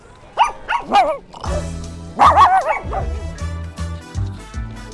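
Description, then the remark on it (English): Several small dogs bark and yip in quick, high-pitched bursts, clustered near the start and again around the middle, while a steady tonal hum or music plays underneath, at a high-profile conference in Beverly Hills, California. “I'm really watching the little dogs here, quite cute.”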